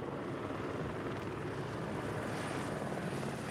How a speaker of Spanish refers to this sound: Llegó el helicóptero y sin descender bajó el balde. Uno de los técnicos lo llenó con el cebo. Y ahí el helicóptero se elevó para dispersarlo por la isla.